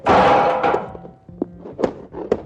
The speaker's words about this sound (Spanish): Ahí viene un carro. Le voy a aventar una silla para ver si se detiene.